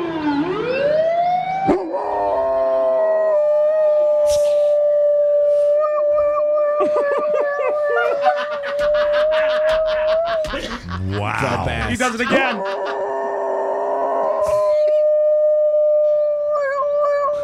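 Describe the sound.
A golden retriever howls along with a wailing ambulance siren, its long sustained howls rising and falling over the steady electronic tone, with a person briefly remarking in between.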